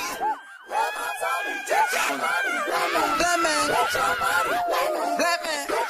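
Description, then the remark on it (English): A dense layer of many voices crying out, whooping and screaming with bursts of laughter as vocal interjections in the background of a piece of music, high wavering pitches overlapping continuously at a steady, fairly loud level for several seconds. “You know, these sort of cries and screams and laughter, and it's like, it makes me think of how you can't always tell whether those are cries of joy or cries of pain.”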